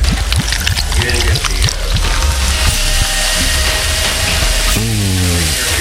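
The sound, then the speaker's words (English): Brownish soda pours into a glass for about six seconds, a steady gurgling stream with a rising tone and fizzy hiss. A short vocal sound breaks in near the end. “But first, I'll pour this delicious brownish liquid.”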